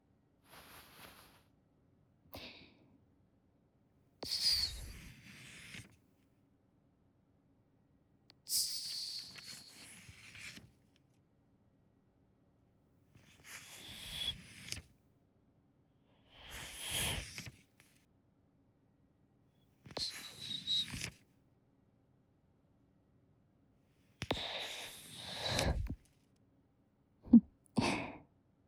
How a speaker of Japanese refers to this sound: なんとなく折り紙 ASMR の意味分かってきました。こういう紙を折る音がお耳に気持ちいいんですね。